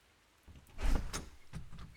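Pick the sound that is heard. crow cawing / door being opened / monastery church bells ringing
door being opened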